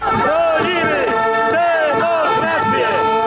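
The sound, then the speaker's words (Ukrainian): A large crowd at protest rallies in Poland chants in unison 'We will defend democracy, we will not allow the courts to be destroyed', voices rising and falling in a steady repeated rhythm, loud and continuous throughout with no single voice standing out. “Такі вигуки лунали на акціях протесту, які прокотилися останніми днями по найбільших містах Польщі і далі тривають під стінами польського парламенту.”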